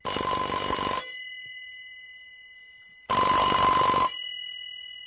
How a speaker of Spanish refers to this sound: Oyes, Elena, suena el teléfono. Slyšíš, Eleno, zvoní telefon.